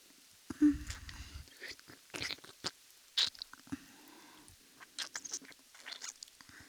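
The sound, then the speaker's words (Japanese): Quiet wet licking, a steady run of soft smacking and slurping clicks that stops and starts for several seconds, with no talking. “いつまで舐めてるのか。”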